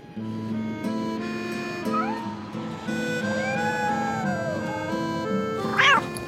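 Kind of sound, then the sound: animal, cat meowing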